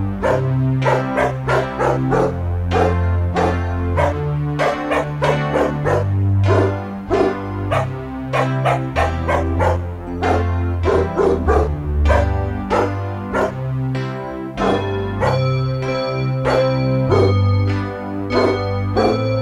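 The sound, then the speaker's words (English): A dog barks over and over, loud, with sharp barks in quick, irregular bursts that continue throughout with no one speaking. “My dog's cool.”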